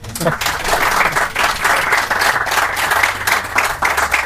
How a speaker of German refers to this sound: Der erste und einzige Applaus, den es je bei DISAM gab, ist für dich.